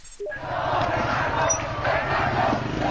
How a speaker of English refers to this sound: A sea of government supporters in Tehran, hundreds of thousands strong, cheering and marching through the streets to mark the 31st anniversary of the Islamic Revolution.